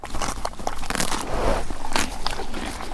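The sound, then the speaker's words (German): A horse chews hay or carrots, with steady, repeated crunching bites and crisp crackles running for a few seconds, loud and continuous with no voices. “Ich liebe das, wenn Pferde Heu kauen oder auch Karotten essen.”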